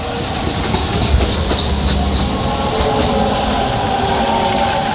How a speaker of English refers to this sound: The train crosses a high steel bridge after Intragna, marking the end of the Cento Valley.